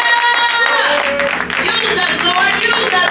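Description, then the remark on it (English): An audience at Liberty Temple claps steadily in a dense, loud burst of applause as a clap of praise to the Lord, mixed with raised voices and shouts of praise throughout. “Give the Lord a hand for clap of praise of being an example.”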